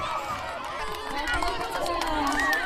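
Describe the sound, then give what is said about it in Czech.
First-grade schoolgirls dash off at the start of a half-kilometre race amid a steady roar of high-pitched children's shouting and cheering, with quick scattered footfalls running through the dense crowd noise. “A dívky už vybíhají na půl kilometru dlouhou trať.”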